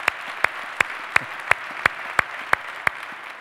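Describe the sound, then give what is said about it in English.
An audience applauds in a steady, dense wash of clapping, with sharp, evenly spaced louder claps punching through in a regular rhythm about three times a second, welcoming the Nagpur, India campus. No one speaks. “Would you give it up for the Nagpur campus by way of applause?”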